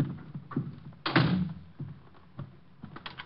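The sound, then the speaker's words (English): A door swings shut with a solid thud, followed by a few small metallic clicks and rattles as the lock is turned. No one speaks. “I'm locking the door.”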